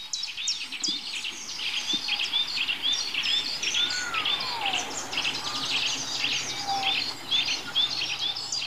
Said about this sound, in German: Mischform von Gartenbaumläufer und Waldbaumläufer. Können die beiden sich überhaupt paaren? Gibt es da Mischsänger? Ich werde es gleich nochmal nachlesen. Und versuchen rauszukriegen. Wer pfeift denn da? Was pfeift denn da für ein komischer Vogel?